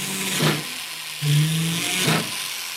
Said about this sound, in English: Lobsha drills a hole in a piece of silver, in which he'll later set a jewel.